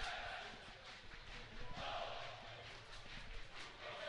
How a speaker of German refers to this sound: Falls ihr im Hintergrund auch nur den Ansatz von Stimmung oder rhythmischem Klatschen hören solltet, das sind die Wuppertaler Fans.